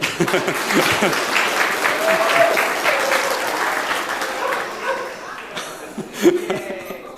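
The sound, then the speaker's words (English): Steady applause from a crowd fills the scene while a dog barks a few times over the clapping, with one sharper, louder bark near the end. “The also the dog.”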